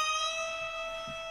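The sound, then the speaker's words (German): A water pump squeaks in one steady, unbroken high-pitched squeal, a bright whistling tone held at even loudness throughout, with no voices. “Und zwar ist das das Quietschen von so einer Wasserpumpe.”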